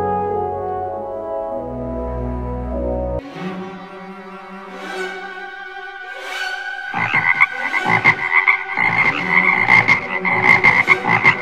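Frogs croaking, starting with sustained tones and building into a loud, dense chorus of overlapping, pulsing croaks in the second half. There is no talking.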